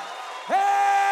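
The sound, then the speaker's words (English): An audience cheers and shouts, with a steady crowd roar and one voice rising into a loud, sustained whoop that holds to the end. “Somebody shout with me. This is part of it. It's not just the preaching, it's the shouting.”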